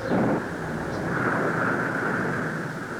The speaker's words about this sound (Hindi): आकाश में बादल छा गए थे, आंधी चल रही थी और हल्की हल्की वर्षा भी हो रही थी।